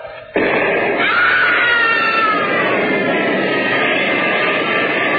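A man screams, loud, over a roaring burst of noise from a dynamite charge being set off to blast through a mountain; the burst starts abruptly and holds steady for about five seconds.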